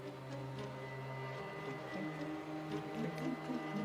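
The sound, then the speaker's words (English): A vacuum cleaner drones steadily as a carpet is vacuumed in a movie scene, its motor whine holding a constant pitch with a slight rising and falling hum as it works, loud and continuous throughout. “Oh, no, it's a vacuum.”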